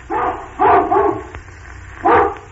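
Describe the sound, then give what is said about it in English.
An old hound dog gives a series of deep, drawn-out barks: one long bark, then two in quick succession, a pause, and a final bark, loud and alone with no talking. “An old hound dog with a very old and very doggy bark, like this.”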